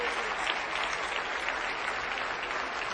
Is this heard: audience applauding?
yes